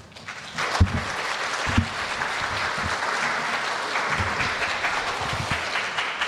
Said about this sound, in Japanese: 拍手を持って歓迎いたしましょう。